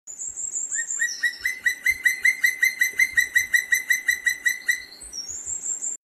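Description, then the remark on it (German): A loud, far-carrying bird call used as a contact and territorial signal, tied to breeding and courtship, repeats in a rapid, even series of sharp, ringing notes for several seconds, with high thin whistles at the start and end, heard clearly with no talking. “Und auch dieser Ruf ist sehr typisch, sehr weit zu hören, auch sehr laut. und eigentlich nicht mit einem anderen Vogel zu verwechseln.”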